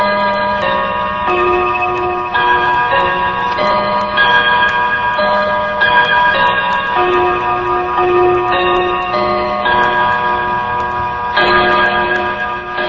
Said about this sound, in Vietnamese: Từ lầu chuông xa xa, tiếng chuông vọng lại cấp bách.